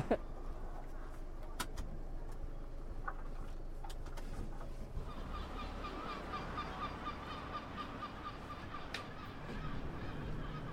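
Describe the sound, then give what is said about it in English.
Seagulls call repeatedly outdoors in Liverpool, their cries growing busier and more layered in the second half over a steady low rumble of wind and traffic. “Lots of seagulls out today.”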